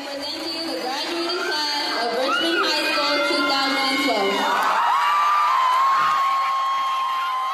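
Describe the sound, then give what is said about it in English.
A large crowd at a high school graduation at the Richmond Civic Center cheers and shouts loudly and continuously, many overlapping voices with high whoops and yells rising above a dense roar throughout. “As the Richmond Civic Center erupts with emotion, there's a familiar feeling of accomplishment in the air.”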